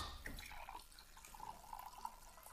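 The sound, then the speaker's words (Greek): Water running from a kitchen tap to fetch drinking water, a soft steady hiss with a few bright dripping plinks mixed in, fairly quiet and continuous, with no voices. “Όχι, όχι από το μπάνιο, νερό. Από την κουζίνα.”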